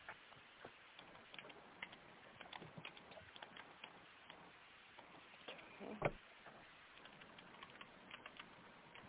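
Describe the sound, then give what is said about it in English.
Quiet, uneven keyboard typing as someone types in a city name: a steady patter of soft key clicks in short bursts, with one slightly louder clack midway and no voices. “I can't find that city on here. I don't know if I'm just typing in wrong.”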